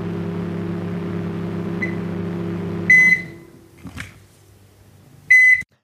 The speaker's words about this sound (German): das Piepsen einer Mikrowelle, wenn das Essen fertig ist, war mein Prompt, halt auf Englisch.